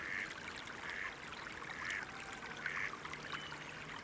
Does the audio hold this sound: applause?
no